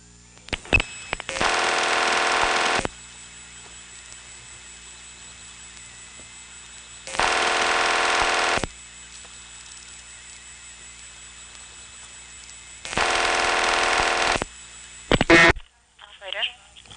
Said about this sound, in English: Now when she pulls her cord out, you hear a burst of the famous 2600 Hz tone, since this is a circuit that operates that way, and then the trunk goes back to ringing.